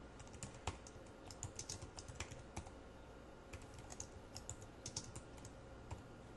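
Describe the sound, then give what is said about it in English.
Rapid, uneven keystrokes on a computer keyboard, fairly quiet, clicking in short bursts with brief pauses over a faint steady background hiss, as someone types strings into an array in code; nobody speaks. “We'll use an open square bracket, and now we can simply, in the case of an array of strings, we can just start typing in some strings.”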